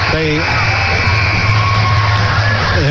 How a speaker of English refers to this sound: The cheer you heard, I believe, is for your good friend and mine